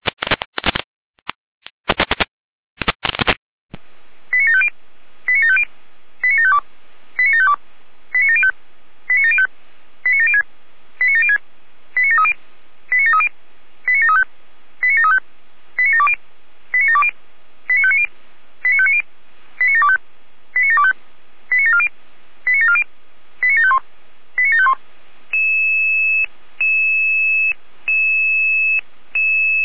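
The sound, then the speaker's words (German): Radio dispatch alert tones of a test call from the Jena dispatch centre (Leitstelle Jena) for Florian Seifeld, Rudelstadt: a few harsh bursts, then a long rapid series of short, evenly spaced high beeps, ending in a sustained steady tone. No talking. “Hier Leitstelle Jena mit Proberuf für Florian Seifeld, Rudelstadt, Ente mit Proberuf.”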